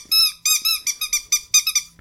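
A squeaky dog toy squeezed repeatedly, about eight loud, high-pitched squeaks in quick, uneven succession, with no talking.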